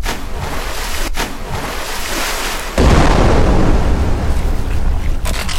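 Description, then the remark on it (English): In a video game, roaring ocean surf and wind give way midway to a sudden heavy crash as something rams through a wooden boat from underneath and it cracks in half, followed by loud, sustained rumbling water and debris. No one speaks. “Moby Dick just went right through the boat! Shit! It's cracking in half!”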